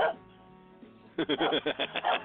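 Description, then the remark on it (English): A drawn-out whining tone gives way to a rapid burst of about eight short, sharp, loud barks from a dog named Dr. Cake, yapping excitedly in quick succession. “You wild-eyed maniac dog, you.”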